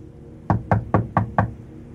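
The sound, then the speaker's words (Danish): A landlord knocks five firm times on an apartment door in Gnesta, Sweden, on 6 July 2005. The knocks are evenly spaced in a steady rhythm and clear against a quiet background, with no voices. “banker Bo Gustafsson den 6. juli i 2005 på døren ind til lejligheden i Gnesta”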